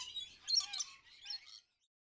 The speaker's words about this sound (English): Look at the birds. 1. These birds are my pets. They're pretty.